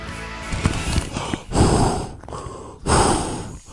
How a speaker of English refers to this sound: I'm breathing into a bag because I'm feeling dizzy after this week.